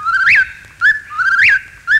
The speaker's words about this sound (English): Now, if you're quiet, I think you can hear the whippoorwill in the distance. Here he comes.